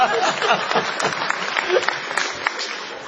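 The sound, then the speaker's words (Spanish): A group of people clapping in a dense, steady patter of many quick hand claps, continuous throughout, with faint voices murmuring underneath. “Las ovejas no aplauden, son las patitas.”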